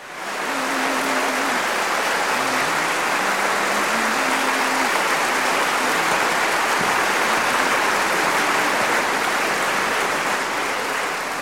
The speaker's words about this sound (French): et si vous écoutez très attentivement, vous entendrez que sous les applaudissements, le baryton murmure encore la mélodie.